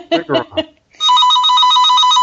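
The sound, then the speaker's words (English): A few short bursts of speech, then a landline telephone plugged into the wall starts ringing: a loud, steady electronic trill with a rapidly warbling high tone that continues unbroken to the end. “I'm just shocked somebody has a landline.”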